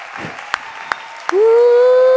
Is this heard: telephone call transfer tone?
no